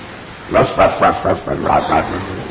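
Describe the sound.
A person's voice imitates a dog barking, giving a quick run of about six or seven loud yips and woofs in an uneven rhythm with brief pauses between them.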